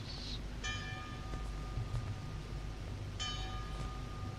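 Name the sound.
bell ringing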